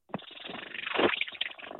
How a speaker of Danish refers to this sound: Er det en kat? Det lyder mere som en lille påhængsmotor. Nogle gange, når katte de spinder, så er det også, at man tænker, okay, rolig, du går i stykker, hvis du gør det så meget umage med det der.